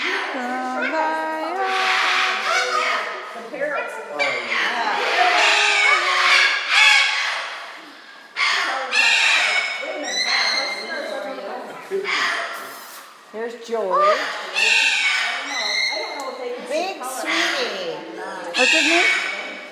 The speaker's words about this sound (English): Big bird.